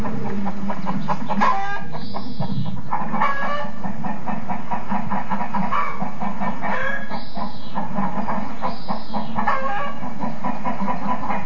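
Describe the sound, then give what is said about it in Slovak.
A flock of chickens cackles and clucks steadily in a small-scale poultry keeper's backyard in the east, their overlapping calls forming a busy, continuous chatter broken by a few higher, drawn-out squawks. The hens wintered in an insulated henhouse and are already laying eggs. No one speaks. “My sa v tejto chvíli vyberieme na takýto zadný dvor drobnochovateľa Pavla Krajňáka, kde mikrofón Jana Kondora zachytil aj krákoranie hrabavej dediny.”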